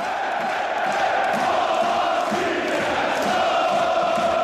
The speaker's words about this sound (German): Die Fans von Brøndby Kopenhagen. Sie gelten als fanatisch, lautstark und stimmungsvoll.